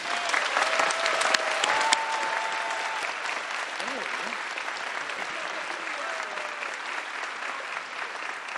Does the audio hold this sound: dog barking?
no